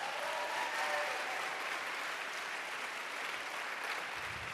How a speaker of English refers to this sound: Another round of applause for Fess, please.